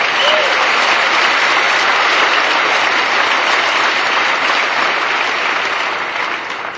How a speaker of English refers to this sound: You applauded so boldly. I mean, you can still like me. Thank you for that smattering of wimpy applause.